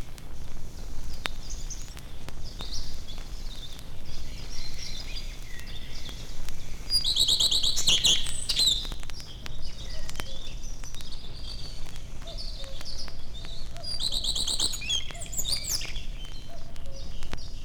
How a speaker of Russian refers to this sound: Это песня садовой горехвостки. Она любит селиться по соседству с человеком. Ее легко узнать по красной окраске хвоста и рыжей с черным манишке.